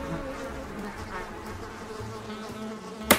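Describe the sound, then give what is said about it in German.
A housefly buzzes steadily for a few seconds, its drone wavering in pitch as it moves, ending with a brief sharp click or tap. “Und die kleinen Fliegen mag ich jetzt auch nicht so richtig, weil die halt nerven, weil die immer auf dem Bein herumkrabbeln.”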